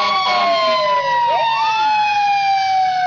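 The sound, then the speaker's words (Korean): A loud emergency vehicle siren wails continuously, its tones sweeping and overlapping as if several sirens sound at once, with no talking. “어디서 불이 났나요? 사이렌 소리가 아주 요란하네요.”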